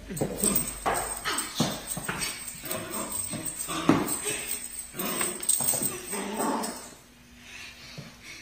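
A puppy whimpers and lets out quick, high-pitched yips in a steady run of short cries, some louder bursts among them, fading to quieter whines near the end.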